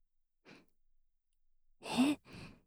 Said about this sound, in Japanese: いいですよ。深いところまで、吐息でくすぐってあげます。どうか、何も考えず、体の力を抜いて、感じてください。お兄さんが満足するまで、ふうふうしちゃいますので。